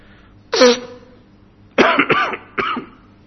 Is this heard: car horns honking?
no